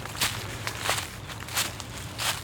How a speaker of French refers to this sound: Le sol, il change aussi. On entend bien le gravier, la terre dure, les feuilles sèches. Ça grimpe vraiment.